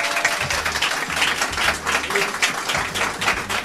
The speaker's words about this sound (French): Alors, ce serait bien de l'applaudir parce que c'est.